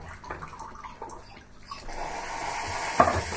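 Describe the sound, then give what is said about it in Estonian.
A milk frother bubbles and hisses steadily, starting after some light kitchen clinks and growing louder, with a sharp clatter near the end. No voices. “Vaata, piima vahustaja on see, mis sa praegu niimoodi suliseb, vaad selle ooliku juures.”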